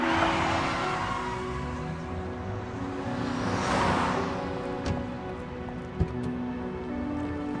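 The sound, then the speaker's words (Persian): A car rolls along with a steady engine and road rumble under a rain-like hiss, swelling briefly in the middle before a single sharp knock near the end, as the car is told to stop. “نگه دار. گفتم ماشین رو نگه دار.”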